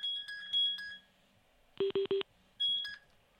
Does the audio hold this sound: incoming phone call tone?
yes